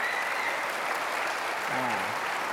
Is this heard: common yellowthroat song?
no